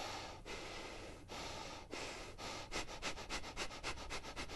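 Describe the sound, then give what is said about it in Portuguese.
A person demonstrates accelerated, dynamic breathing, breathing rapidly and forcefully through the nose, starting with a few long sniffing breaths that quicken into a fast, rhythmic series of short, sharp sniffs. No one speaks. “Uma respiração acelerada, isso já vai dar um outro resultado.”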